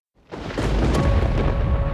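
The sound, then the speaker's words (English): A loud thunder boom from lightning breaks a moment of silence, then swells into a deep, sustained rumble that keeps rolling to the end, with no voices present. “The booming claps are the result of air rapidly expanding as lightning heats it to nearly 50,000 degrees Fahrenheit.”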